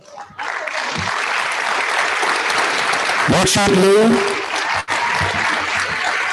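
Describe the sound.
A crowd applauds steadily for national first place winners of a Language Arts League. The dense clapping continues throughout while a voice speaks briefly over it, with a short lull near the end before the clapping resumes.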